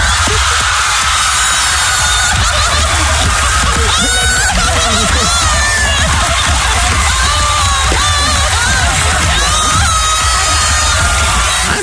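A loud crowd cheers and shouts continuously, with high whoops and yells rising over a dense roar of many voices throughout.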